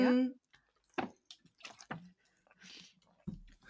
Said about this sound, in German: Also ich trinke schnell noch einen Schluck Wasser.